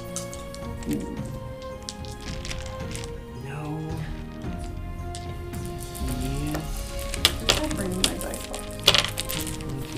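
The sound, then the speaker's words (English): Dice rattle and clatter in a dice box during faction rolls in a game, a steady scratchy rolling with a few sharper clicks toward the end, while voices murmur underneath. “You have a nice dice box.”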